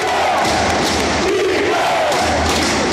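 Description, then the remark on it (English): About 17,000 fans in a sold-out Oracle Arena roar for the Warriors, thousands of voices screaming and cheering in a loud, dense wall of noise with swelling bursts and low rumbling underneath. “And when the Warriors finally won the title, they did it in Cleveland, while 17,000 fans packed a sold-out Oracle to make noise for a team that couldn't even hear them.”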